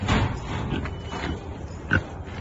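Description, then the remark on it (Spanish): A pig grunts several times, short low snorting bursts in an irregular rhythm, with one sharper, louder grunt near the end. “Los cerdos son mucho más inteligentes que los perros.”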